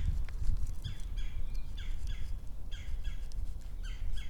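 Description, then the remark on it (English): Birds chirp in short, repeated bursts of quick notes, about one burst per second, heard outdoors over a steady low rumble of wind or background noise. “What are they chirping about?”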